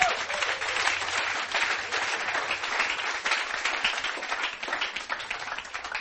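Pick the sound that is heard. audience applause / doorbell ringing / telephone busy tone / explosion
audience applause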